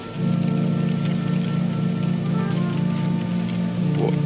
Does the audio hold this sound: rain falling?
yes